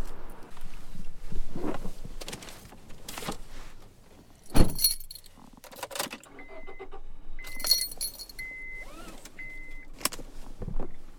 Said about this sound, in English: Okay, I'm going to get in the car.